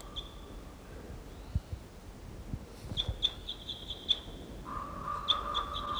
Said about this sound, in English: They're calling wild birds.